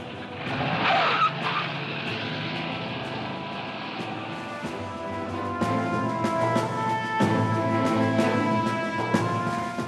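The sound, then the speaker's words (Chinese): Harry Truman rushes out and gets into a car, which peels away toward the White House with a brief, sharp squeal of skidding tires, then its engine roars steadily as it speeds off, loud, with no talking. “放低电话，二话不说就冲出门，上咗汽车。”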